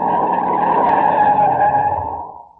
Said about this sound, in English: We're coming to another turn. Okay, now brace yourselves. I'm shutting the brakes on hard.